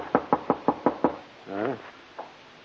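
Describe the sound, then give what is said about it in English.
Six firm, evenly spaced knocks on a room door by a homicide detective rap out in quick succession, then a short questioning voice answers and a single faint tap follows. “Who is it? Open up,”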